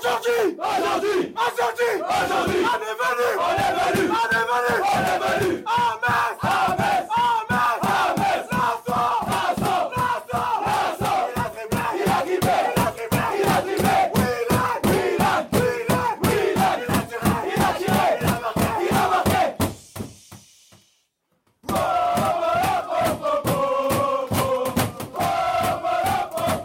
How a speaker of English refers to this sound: the team spirit in the dressing room at Nice after the full-time whistle. This is really great.